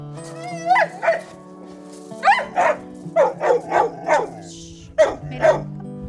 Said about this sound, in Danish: Er det begejstring? Eller ja, ja, det er hyrdehund, der er sådan, hvad skal vi nu? Ja. Hvor skal vi hen?